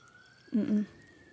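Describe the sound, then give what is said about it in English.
A fire truck's emergency siren holds a steady, high-pitched wail throughout as it comes down a road, rising only slightly in pitch. A short, low vocal murmur briefly cuts in partway through. “Oh, they're coming down our road.”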